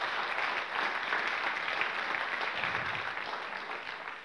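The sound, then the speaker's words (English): A crowd claps for Jesus, a dense, even wash of many hands that holds at a fairly constant loudness for several seconds and eases slightly toward the end. No voices stand out. “Ja, clap for him, he's the Lord.”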